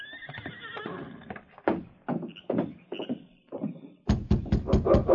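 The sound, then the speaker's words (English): A horse whinnies loudly, followed by scattered heavy hoof thuds and then a quick, steady run of clip-clopping hooves as three riders ride up to a cabin on a Yukon night and rein to a halt; no talking. “Gil Baxter with Frank and Jay rode up to the Baker cabin and reined to a halt”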